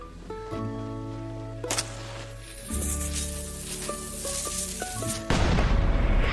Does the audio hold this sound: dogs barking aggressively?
no